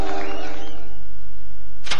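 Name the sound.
car engine starting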